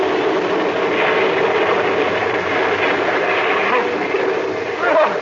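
A big wave washing over a ship's deck: a loud, steady rushing roar of water that holds for about five seconds, then surges briefly at the very end.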